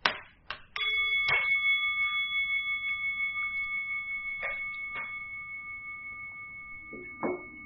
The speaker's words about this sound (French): We'll begin with the sound of the bell. Nous allons commencer avec le son de la cloche.